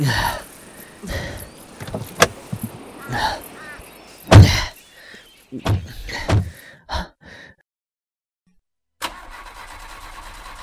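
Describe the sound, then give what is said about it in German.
A car engine cranks again and again in short, uneven bursts, sputtering without catching, then falls silent before a low steady hum comes in near the end. “Der Wagen springt nicht an.”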